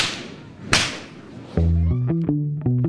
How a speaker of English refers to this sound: When I asked him how long he'll be cracking whips, he smiled and said there are people performing well into their 70s.